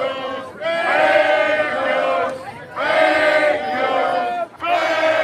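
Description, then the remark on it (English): A crowd shouts the chant "fake news" in unison at what are thought to be CBC cameras, loud and strained, in repeated drawn-out bursts separated by short gaps, with many voices blending into one rough roar. “Oh, they're screaming fake news.”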